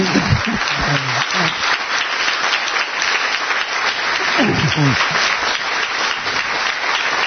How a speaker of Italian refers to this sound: Facciamo un applauso a queste persone.